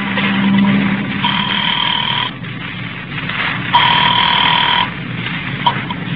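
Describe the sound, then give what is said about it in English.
A call placed from a phone booth: a telephone line with a low hum at first, then two long electronic ringing bursts spaced a couple of seconds apart, heard through the earpiece over steady line noise, with no voices. “I took a chance that the old dame on the phone might have been brushing me off the other night, and I went into a booth and dialed the number.”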